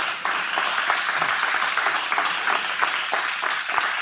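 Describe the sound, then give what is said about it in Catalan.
A studio audience at a RAC1 radio programme bursts into steady applause, a dense wash of many hands clapping that stays loud and even for about four seconds with no voices over it. “Oients de RAC1, un aplaudiment també perquè es noti aquesta concurrència una altra vegada.”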